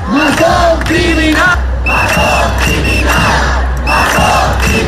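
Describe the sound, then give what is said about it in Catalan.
A large protest crowd in Catalonia, demanding the resignation of Carlos Mazón, chants slogans such as "Mazón dimissió, Mazón criminal" in loud, rhythmic unison. Repeated shouted phrases surge in waves over a dense roar of voices, continuous throughout. “Concentracions a Olot per exigir la dimissió de Carlos Mazón, però res a veure amb els crits que s'han sentit a diferents punts del país.”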